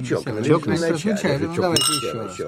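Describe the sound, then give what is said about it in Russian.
A single bright clink of wine glasses touching in a toast, ringing out clearly for a moment while people keep talking over it. “Мы с вами не чокнулись бокалами.”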